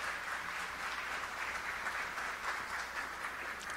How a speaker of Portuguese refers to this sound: Senhoras e senhores, ao violão, pedimos uma calorosa salva de palmas ao grande maestro, multiinstrumentista, querido